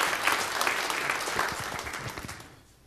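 An audience applauds, a dense crackle of many hands clapping at once that holds steady and then fades out near the end.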